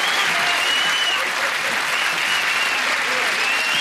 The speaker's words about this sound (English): Edith beams, and the bar bursts into applause.